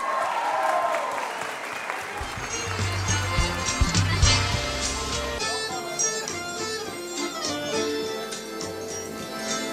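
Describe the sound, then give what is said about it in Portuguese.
An audience at an evening tribute ceremony applauds an honored radio presenter steadily for about ten seconds, a dense clatter of many hands clapping at a fairly loud, even level with a few sharper claps standing out. “Uma salva de palmas.”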